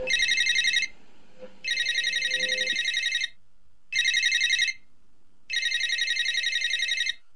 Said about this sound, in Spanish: Suena el teléfono.